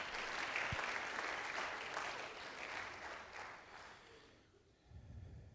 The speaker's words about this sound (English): I think we should clap our hands to the Lord and make a joyful noise.